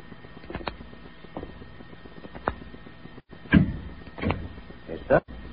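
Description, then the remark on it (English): A handful of dull, irregular knocks on a wooden door, the last three louder than the first, standing out against a low, steady background rumble. “I went up to the door, knocked, and waited.”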